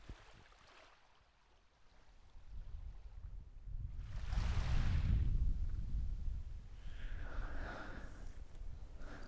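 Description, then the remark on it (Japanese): Soft ocean waves wash onto a shore at night in winter at Katae, with a broad surging swell building around the middle and a gentler rush following, steady with no voices. “波の音聞こえませんか？”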